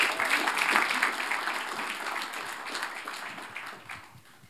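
An audience applauds: dense, crackling clapping from many hands that holds steady for a few seconds, then gradually thins and fades out.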